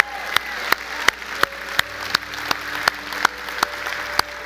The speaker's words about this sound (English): Hey, Christ Church, let's hear a big cheer for those who accepted Jesus Christ today. Let's hear it.